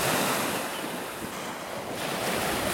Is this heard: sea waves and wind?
yes